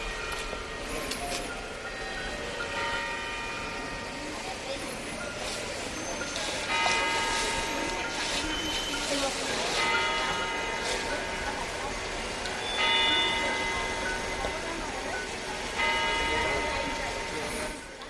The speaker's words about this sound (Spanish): Faltan unos segundos para que sean las 9 de la mañana, que vamos a intentar escuchar desde el reloj situado en la Puerta del Sol en Madrid, que también conocemos por las campanadas de fin de año.